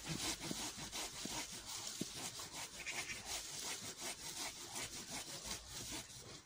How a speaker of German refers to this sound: ist die Säge überhaupt noch gut? Im Moment sieht man es, aber guckt mal auf das Sägeblatt, das ist ja unten ganz ausgefranst, total gezackt.